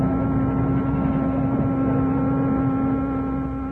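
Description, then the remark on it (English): A deep, steady engine of the American tanker Cedar Mills drones without pause as the ship weighs anchor and heads out to sea in Australia on Thanksgiving Day, 1943. A low rumble is topped by a constant tonal hum, holding an even loudness throughout, with no voices present. “Thanksgiving Day, 1943, Captain Morgan Maxey, master of the American tanker Cedar Mills, and his first mate stood on the bridge as the ship weighed anchor and prepared to head out to sea.”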